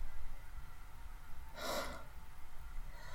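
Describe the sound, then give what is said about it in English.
A chihuahua puppy gives a single quick, breathy snort, a soft puff of air lasting about half a second, over a quiet low rumble of background noise. “I can hear it breathing. Wait. Breathing? Spiders don't breathe like that.”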